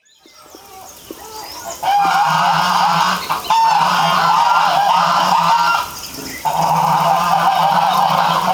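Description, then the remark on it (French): A flock of geese honks loudly and continuously, a dense clamor of overlapping nasal calls that swells in after a quieter start and dips briefly twice before resuming. “Luttant pour sa survie, chaque oie défend son bec, tandis que la vache se fait juge de leur bonne foi, tranchant qui sera tranché.”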